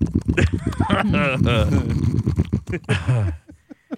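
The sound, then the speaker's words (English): A person imitates a squealing pig, making loud, warbling high-pitched squeals in two bursts with quick grunting sounds between them. “Started screaming like one of the pigs.”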